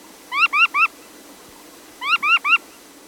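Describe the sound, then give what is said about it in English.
A surfbird calling: two quick bursts of three rising, squealing whistled notes each, separated by a short pause, fairly loud over a faint steady hiss with no voices. “Surf birds first became known to science in 1778 during one of Captain Cook's expeditions, but it took another 150 years to figure out where they nest, high on the rocky slopes of mountains in Alaska.”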